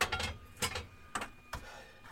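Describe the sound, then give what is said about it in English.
Workshop noise: a handful of sharp, irregular clacks and taps, roughly five bursts in two seconds, over a faint steady high whine. No one speaks. “You can probably hear the workshop now.”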